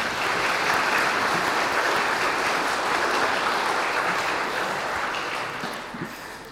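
A church audience claps in sustained, dense applause to welcome a newly baptized child into the church family, steady and loud for about five seconds before gradually thinning out and fading at the end, with no talking over it.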